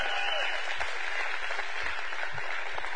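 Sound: audience clapping hands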